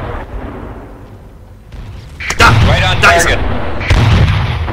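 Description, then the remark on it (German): A heavy cannon in a video game fires at a target several times in quick succession, loud, with deep rumbling blasts and crackling bursts trailing off after each shot. “Ah, er kommt ja näher, also Kanone ein bisschen.”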